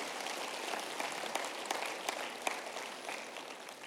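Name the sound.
audience applauding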